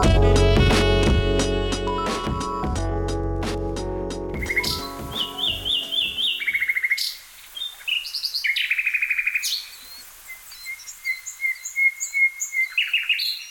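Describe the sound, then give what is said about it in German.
After a few seconds of dense, rumbling tonal sound, lively birdsong takes over with leaves rustling in the wind: bright, high chirps and short trills in quick repeated bursts, clear, with no talking. “Vogelgezwitscher, das Rascheln der Blätter im Wind und der Geruch von Blumen.”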